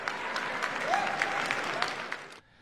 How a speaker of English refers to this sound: You heard the president pounding on the podium there to end this war. The crowd cheered, and for a moment, as AP describes it, the war did not seem like it was dividing the party at all.